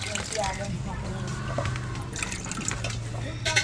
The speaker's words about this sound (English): pours the murky greenish liquid into old used water bottles the family collects.